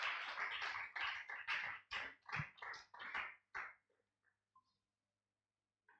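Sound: audience clapping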